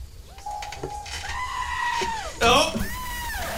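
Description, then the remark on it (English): Squid creatures let out several drawn-out, wavering goat-like bleats in quick succession, fairly loud, with a harsher, strained cry in the middle. “Sometimes they're pig squids and sometimes they're goat squids.”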